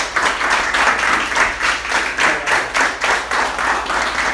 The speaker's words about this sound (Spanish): Pero bueno, un aplauso para todos ustedes.